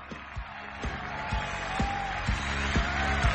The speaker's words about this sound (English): There was not enough clapping. Oh, wow. There needs to be more clapping. More clapping.